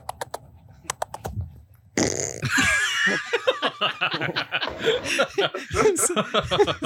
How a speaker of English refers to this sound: There's this video of this guy going around farting on dogs.